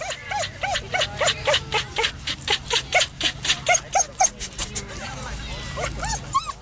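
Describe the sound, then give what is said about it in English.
A dog, Purdy, curls her lip and barks aggressively at two young Labradors in a rapid, relentless string of sharp, high yaps, loud, with only brief gaps between bursts over a low background rumble. “And before I can say, hey, my dog is a shrew, Purdy curls her lip back and bark, bark, bark. This is my turf. Scram.”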